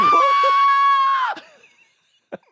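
A loud, sustained scream of fright lasting over a second, close and shrill, then cutting off into near silence before a brief faint sound at the end.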